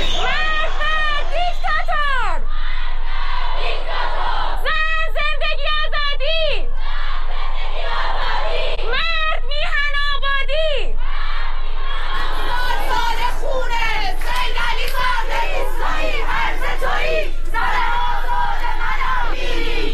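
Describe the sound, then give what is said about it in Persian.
A large crowd of protesters in Iran chants slogans in loud, rhythmic bursts, voices rising and falling together in repeated phrases, with continuous shouting and crowd noise filling the gaps between chants. “تصاویر و ویدیوها و گزارش‌های منتشر شده در شبکه‌های اجتماعی حاکی از ادامه اعتراض‌ها در شهرهای مختلف ایران از جمله چهارشنبه 11 آبان است.”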